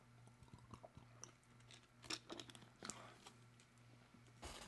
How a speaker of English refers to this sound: Hey, pardon me for a second. I'm going to take a sip of water.